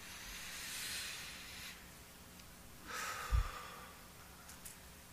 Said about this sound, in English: Won't you do me a favor? Everybody do it for me. Take a good deep breath in.